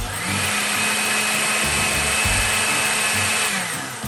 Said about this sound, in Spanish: Continuamos añadiendo la vainilla a la licuadora y también la miel si es que tú decidiste usarla. Y licuamos todo hasta obtener una crema suave, sedosa y completamente homogénea.